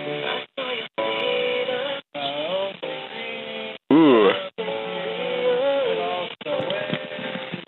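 A Christmas novelty pop song plays through a tinny, thin-sounding speaker, with warbling, sliding vocals. Playback keeps cutting out briefly, in short choppy bursts at a steady, fairly loud level.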